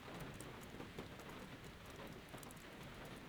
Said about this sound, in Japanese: 私は雨の音色が好きなの。雨の中にいると心が落ち着くの。